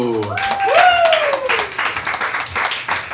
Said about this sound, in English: Everybody, please, big round of applause